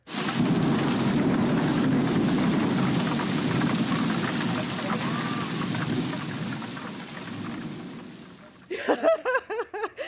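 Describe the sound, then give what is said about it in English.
A storm sound effect of steady, heavy rain and blustery wind roars for about eight seconds with a low rumbling undertone, then fades as a voice begins talking. “Is my storm coming?”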